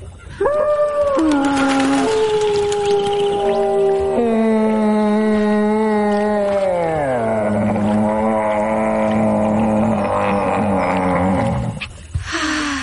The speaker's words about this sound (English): Shh, there's a moose.